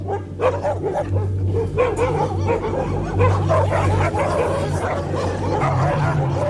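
Several dogs bark, yip and snarl in a dense, continuous, loud scuffle, with whimpers mixed in over a steady low hum throughout.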